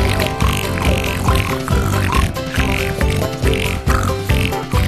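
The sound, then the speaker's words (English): A voice mimics a pig with a run of loud, rhythmic snorting oinks, repeated steadily over a dense musical backing. “Like piggies.”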